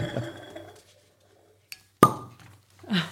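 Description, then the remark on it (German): A soft, rushing pour of wine into a glass fades out, then after a quiet pause a single bright glass clink rings, followed by faint rustling movement. “Ich habe ja die ehrenvolle Aufgabe, ich darf immer auf das Kosten hinweisen und ich darf dich bitten, das, was du uns mitgebracht hast, auch ins Glas zu bringen.”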